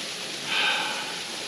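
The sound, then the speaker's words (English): A steady, hissing wash of flowing creek water runs throughout, swelling briefly louder in the middle before settling back to an even rush. No voices are heard. “Thank you for joining me down at the creek today.”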